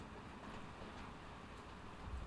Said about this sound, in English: Calm down. It's only thunder. See? There's no need to be frightened.